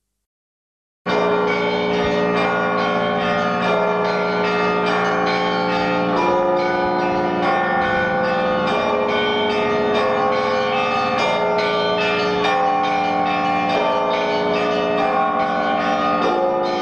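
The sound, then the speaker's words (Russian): An 18-ton church bell rings loudly and steadily, calling guests to a bell-ringing festival; its deep, humming tones overlap into a continuous resonant wash with repeated strikes throughout, with no voices. “Звон 18-тонного колокола Александр Невский созывает гостей фестиваля «Невские звоны».”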